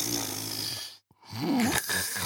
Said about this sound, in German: Ich habe also noch ein bisschen weiter gezappelt, aber gleichzeitig konnte ich Mama und Papa schnarchen hören.